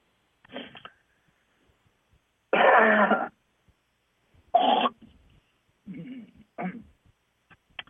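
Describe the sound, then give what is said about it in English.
Someone clears their throat several times in a row, a series of short, raspy bursts with one longer, harsher rasp in the middle, fairly loud with short silences between. “Well, all I got to say is sometimes you got to clear your throat.”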